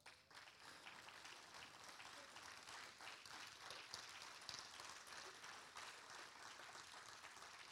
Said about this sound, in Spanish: Un aplauso para las madres.